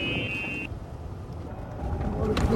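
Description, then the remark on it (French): A small golf cart drives across a golf course in Miami Beach with a steady low rumble and buffeting wind noise, a brief high whine at the start and the hum swelling louder toward the end. “On va voir la petite voiture, hein. Une petite carte là qui va vite.”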